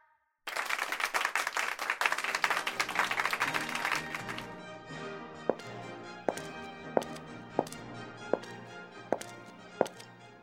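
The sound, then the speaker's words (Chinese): A loud burst of audience applause as the team captain goes on stage to receive an honour medal from the mayor, dense and crackling for a few seconds, then thinning into single sharp claps at a slow, steady beat over a sustained tonal hum. “让我们以热烈的掌声，让我们的队长上台接受市长颁发的荣誉勋章。”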